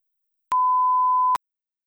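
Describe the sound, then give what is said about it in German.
A single steady electronic beep from a telephone answering machine, the signal tone before a message is left: a pure mid-pitched tone lasting just under a second, clear and loud with sharp clicks at its start and end, surrounded by silence. “Sie können uns aber nach dem Signalton eine Nachricht hinterlassen und Ihre Telefonnummer angeben.”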